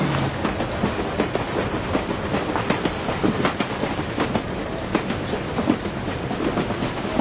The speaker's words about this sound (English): Wherever the train takes me.